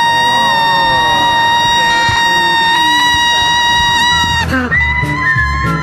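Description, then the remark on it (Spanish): A lone parrot calls loudly in long, shrill, wavering cries that sound almost like a person screaming, holding steady for several seconds before a brief harsh squawk and more crying. “Sino que este sonido es el sonido que hacen los loros cuando están solitos.”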